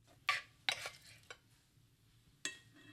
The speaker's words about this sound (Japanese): 新玉ねぎご飯をお皿に盛って、その上にお肉を乗せていきます。